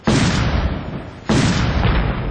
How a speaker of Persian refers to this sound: صدای انفجارهای پیهم و تیراندازی به گونه پراگنده شدت گرفت.